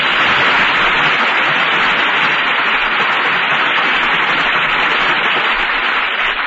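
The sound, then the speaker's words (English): An audience applauds steadily for several seconds for actors Joan Evans, Robert Wagner and Terry Moore after a radio theater performance, a dense, continuous wash of clapping with a thin, hissy, static-like quality and no voices over it. “And here they are to receive our applause for three fine performances.”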